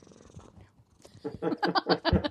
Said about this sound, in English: You've got a happy cat. Oh, yeah. I heard him purring there.